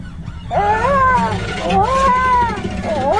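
Whale sounds: long, wavering moans that glide up and down in pitch, two drawn-out calls followed by the start of a third, fairly loud over a low, steady rumble.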